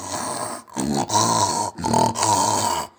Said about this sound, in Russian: «А это дикая свинья!» Тут же угадал малыш.